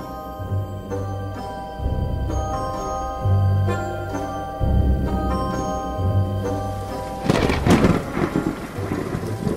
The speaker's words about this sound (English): The rain, which had poured with a pitiless ferocity for so long upon the chimneys and roofs of the great manufacturing city, seemed at length to enclose the whole town within towering prison walls of burnished steel.